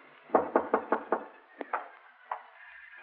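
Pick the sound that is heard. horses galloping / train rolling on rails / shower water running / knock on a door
knock on a door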